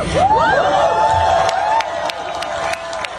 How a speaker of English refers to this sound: Wow, what an enthusiastic crowd. What Donald Trump planned, $1 million a year. What an enthusiastic crowd. I'll tell you why. They were really, really working hard to fake it there.